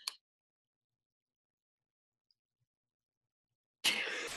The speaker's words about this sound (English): Oh, wait, I have to sneeze.